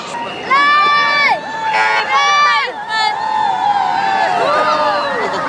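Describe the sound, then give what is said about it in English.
A dense parade crowd screams and shouts as police outriders with blue lights arrive, high voices rising and falling in long overlapping cries over a steady roar of babble. It stays loud throughout, with a few piercing peaks. “So there should be a lot of screaming, shouting quite soon.”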